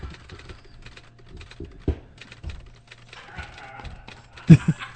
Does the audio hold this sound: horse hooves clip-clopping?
yes